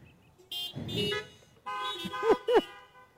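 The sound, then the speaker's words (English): Several car horns honk in overlapping bursts, some long and steady, others short and wavering, with no talking, as a church audience answers the preacher's call to honk. “And if y'all are going to make good choices this week, give us a honk.”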